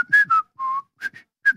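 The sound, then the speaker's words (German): Someone whistles a short, uneven run of notes, wavering and breathy, with gaps between the tones, fairly loud, with no talking. “Wie will ich einfach so schlecht vollpfeifen?”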